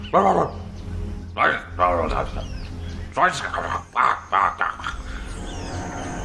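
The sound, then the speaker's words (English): A person imitates a dog barking with a string of short, loud, voiced bursts in an uneven rhythm, each bark rising and falling in pitch over a low steady hum. “Ooh, they're like, oh my god, a dog.”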